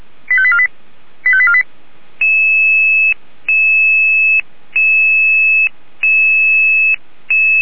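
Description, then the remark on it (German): Ambulance dispatch radio alerting tones from the Jena dispatch center calling a Red Cross rescue unit: two short warbling bursts, then a repeating series of steady electronic two-pitch tones, each about a second long with brief gaps, loud and clear with no voices. “Die Alarmierung für Rotkreuzammer 85-3.”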